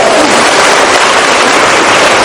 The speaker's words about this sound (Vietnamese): Rồi chúng ta cho một tràng pháo tay gặp người chị em này.